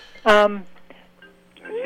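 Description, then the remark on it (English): A phone rings with a single loud, bright electronic burst, then a softer steady tone lingers underneath, fading in and out as other faint sounds follow. “Sorry, phone is ringing.”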